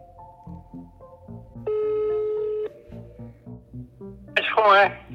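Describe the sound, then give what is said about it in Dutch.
A telephone call being placed by students to a witness: steady electronic tones, then a louder ringing tone of about a second, ending in a bright burst near the end, with low murmuring voices underneath. “Na een aantal mislukte pogingen krijgen de studenten alsnog getuige Vroemen aan de telefoon”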